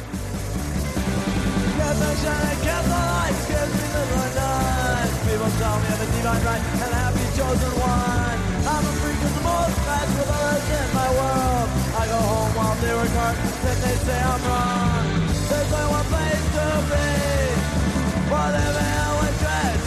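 A fast, loud punk rock song plays continuously, with dense distorted guitars, pounding drums and strained, shouted vocals driving straight through at a steady, full volume.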